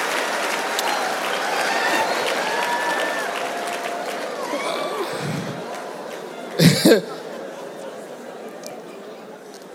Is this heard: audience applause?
yes